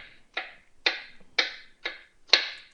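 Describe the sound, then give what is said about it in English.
A knife chops an onion on a cutting board: five crisp, steady strokes about half a second apart, each a sharp knock with a brief crunchy tail, with no talking. “And again, I'm just chopping them up.”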